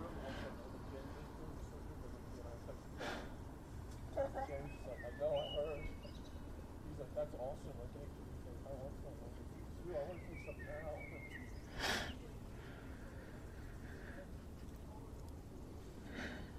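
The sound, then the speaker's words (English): A blackbird sings two short, fluting, warbling phrases a few seconds apart late at night, mid-pitched and fairly clear, over a steady low rumble of background noise with occasional faint clicks. “Late night blackbird.”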